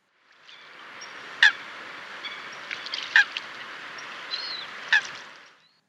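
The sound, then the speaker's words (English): Coots calling and quarrelling: three loud, sharp, honking calls spaced roughly evenly apart, with fainter bird notes and a steady outdoor wash in the background. “They are quite cross birds and often seen quarrelling with each other as well as other birds.”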